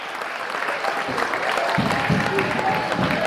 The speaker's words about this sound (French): Le collège Jean Moulin était représenté par 6 classes, et donc la 6e une a fini première en parabiathlon. On peut les applaudir.